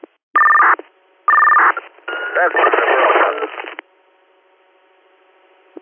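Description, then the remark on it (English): Two loud, steady emergency dispatch paging tones sound in quick succession over a radio channel, followed by a short burst of muffled, crackly radio transmission, then quiet. “Are you all set on tones for now?”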